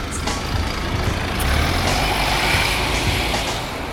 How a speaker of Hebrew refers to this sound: מנוע מניע. הוא נסע.